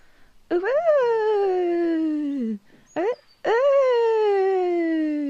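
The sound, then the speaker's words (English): A person imitates an owl hooting with two long, drawn-out hoots, each rising briefly then sliding down in pitch, separated by a short clipped hoot. The voice is steady and fairly loud. “OK, so an owl noise.”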